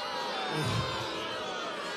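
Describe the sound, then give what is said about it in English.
A crowd cheers and roars in a steady, dense wash of noise that holds at an even level for the full two seconds, with no single voice standing out. “man, this crowd is amazing.”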